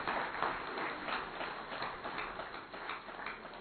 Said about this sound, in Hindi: भाई ये दीदियों के लिए, हमारी दीदियों के लिए, सबके लिए तालियां बजाओ जरा अच्छी तरह से।